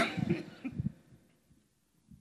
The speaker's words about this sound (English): I'll cough a while and we'll preach a while.